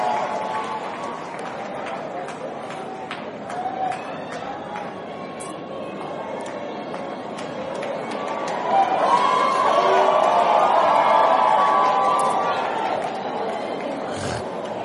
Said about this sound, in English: Now give her a hand clap.